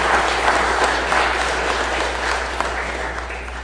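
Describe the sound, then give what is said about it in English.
A church audience breaks into sustained applause to welcome the newest member of the Trinity family. A dense, steady wash of many hands clapping at an even loudness throughout, with no voices standing out above it. “You can clap.”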